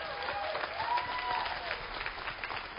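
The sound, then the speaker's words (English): An audience claps steadily for all first-time visitors in a dense, continuous patter of many hands, with a few faint voices mixed into the ovation. “Let's give a hand for all of our first-time visitors.”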